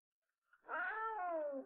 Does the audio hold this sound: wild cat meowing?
yes